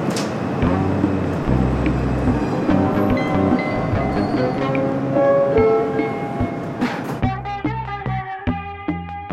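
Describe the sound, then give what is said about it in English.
A subway train, boarded on January 28, 2022, rumbles and clatters loudly and steadily for about seven seconds, with faint voices mixed in, before music abruptly takes over. “It is Friday, January 28th, 2022, and I'm about to get on the subway for the first time in 2 years.”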